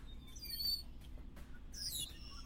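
Birds chirp in two quick bursts of high, twittering calls, one early and one near the end, faint over a low steady background rumble.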